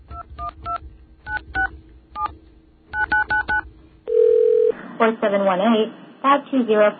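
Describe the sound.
Quick clusters of touch-tone telephone beeps as the number for reporting a lost or stolen city card is dialed, then a brief steady phone tone, followed by a recorded message speaking over the line.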